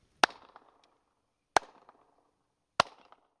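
Three sharp hand claps, evenly spaced about a second apart, each followed by a brief rattling echo off high walls that fades quickly. No voices.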